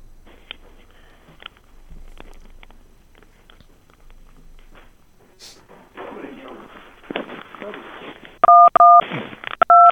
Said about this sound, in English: Oh, okay. I heard touch tones.